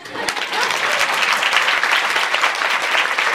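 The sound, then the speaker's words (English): An audience breaks into loud, sustained clapping, a dense crackle of many hands that holds steady for a few seconds without letting up. “You also clap.”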